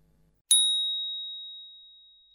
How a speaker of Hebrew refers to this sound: לאחר שנשמע את צליל הפעמון, ניגש אל הדגם.